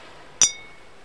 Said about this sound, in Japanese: 生ぬるくなったラムネの瓶で乾杯をした。三つの瓶が澄んだ音を立てた。